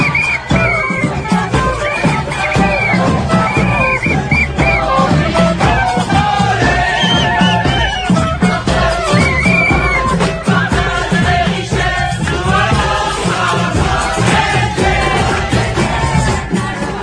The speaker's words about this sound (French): de voir qu'il y a encore des gens qui veulent faire la fête et qui veulent manifester dans les rues